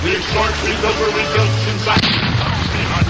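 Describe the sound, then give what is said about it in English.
A loud pirate cannon firing, with heavy booming rumble and crackling blast noise filling the whole few seconds, dense, with a sharp jolt partway through. “Yar, fire the cannon!”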